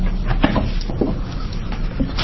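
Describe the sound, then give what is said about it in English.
A gavel taps a few times to close the public hearing on House Joint Memorial 10, sharp wooden knocks spaced unevenly over a couple of seconds against a low, steady background hum. “I'm going to close the public hearing on House Joint Memorial 10 with the tap of the gavel.”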